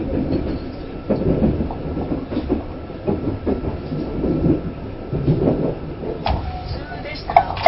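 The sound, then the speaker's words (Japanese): A passenger train that has just left Nagasaki Station on time, bound for Kyoto via the Nagasaki, Kagoshima, Sanyo and Tokaido lines (about 807 km, 12 hours 6 minutes), rolls steadily along the rails, a continuous low rumble with rhythmic wheel clacks, heard from inside the carriage while a muffled announcement voice speaks. “これから長崎、鹿児島、山陽、東海道本線を通りまして京都まで運転いたします。列車の運転距離と所要時間は約 807km で12時間と6分です。”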